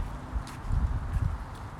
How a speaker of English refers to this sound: I hear my sandals clicking every time I walk the bottom of my feet.